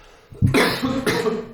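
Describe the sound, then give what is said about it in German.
A person coughs, two or three harsh bursts in quick succession with a brief breathy pause between them. No talking. “Ich muss kurz husten.”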